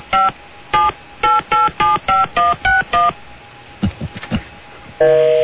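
telephone dialing tones

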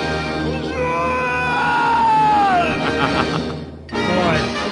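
cartoon character screaming

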